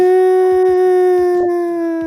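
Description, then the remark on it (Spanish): A steady, harmonically rich earthquake warning siren wail holds one mid pitch for about two seconds, sagging slightly lower toward the end, with faint clicks ticking beneath it and no talking. “Sirena de sismo.”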